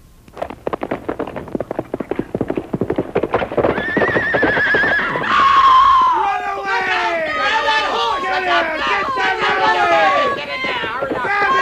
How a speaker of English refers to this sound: And the horse came tearing past at full gallop, foam at the mouth, eyes a-roll wildly, mane and tail flying in the breeze, buckboard bouncing, tipping crazily, swerving from this side to that.